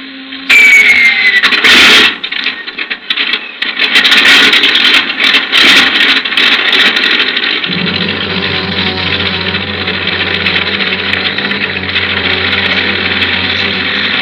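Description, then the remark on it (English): An airplane engine is warmed up at an airport before a night takeoff. It sputters and roars to life with a few clanking bursts, then settles into a loud, steady droning hum, with no one speaking. “I didn't waste much time warming up the engine.”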